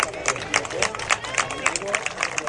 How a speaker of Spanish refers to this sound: Se retira entre aplausos Cardozo, se retira entre aplausos Cristo, entra Pino, entra también Batanero y Guideón.